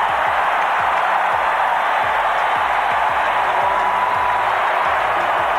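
A crowd of 12,000-plus at the Memorial Coliseum roars and cheers at the end of a 1992 basketball game, United States 136, Cuba 57, a dense, steady wash of voices that holds at an even, loud level without breaking into distinct words.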